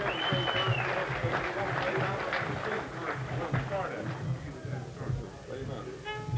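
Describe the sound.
A crowd claps steadily for several seconds as a fiddle player is introduced, a dense, continuous patter of many hands, with a brief high whistle near the start and murmured voices mixed in.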